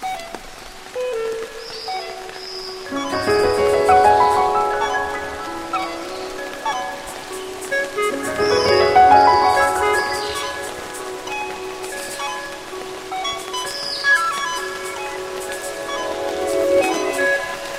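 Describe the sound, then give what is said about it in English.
Steady rain patters through a forest on the slopes of Mount Royal in the Hunter Valley, Australia, in a soft, continuous hiss, with a few birds calling now and then and gentle swells of loudness throughout. “coming to you from the rain-soaked slopes of Mount Royal in the Hunter Valley.”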